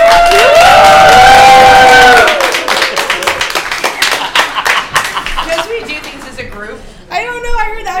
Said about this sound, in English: Are you clapping? This is why are we clapping? Why do we do anything, buddy? Because we're sheeple. Because everyone else is doing it.